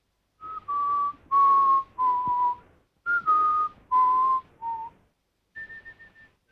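A man whistles a simple tune as he goes to the bathroom, a series of clear sustained notes in two short phrases separated by a pause, ending with a softer, fainter note held alone.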